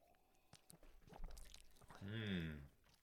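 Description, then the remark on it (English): Wet smacking and swishing as someone chews a sip of rye bourbon around their open mouth in the Kentucky chew, a few soft clicks and slurps, ending in a loud, sustained appreciative hum. “And bourbon you can chew. You're allowed to chew.”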